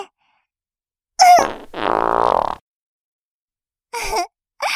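A loud, close-up fart: a short sputtering burst, then a longer buzzing, rumbling release lasting about a second. After a brief silence, a couple of short voice-like sounds follow.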